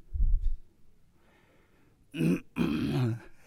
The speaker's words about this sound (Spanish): Le dio tos al hermano